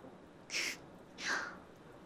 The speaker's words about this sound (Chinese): 你刚才咳嗽了吧？这个时候向狐狸大人祈祷比较好，因为狐狸的哭声也是这样的。